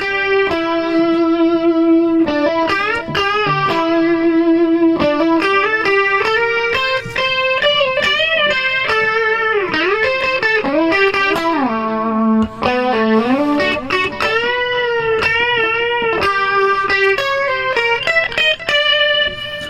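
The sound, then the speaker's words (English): A loud, processed instrument plays a continuous melodic line with bending, sliding notes, using the exact patch from a concert, its tone thickened by a quick slapback echo recreating the studio echo of the original recording, plus distortion. No voices are heard. “Yeah, and he's getting all the slap echo that they did in the studio on the original.”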